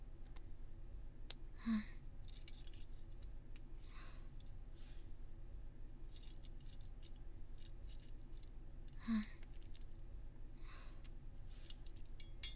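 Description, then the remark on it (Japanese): Quiet metallic clicks and small rattling sounds of a key working a lock, a few scattered moments over a soft steady hiss, with no one speaking. “では鍵から外していきます。”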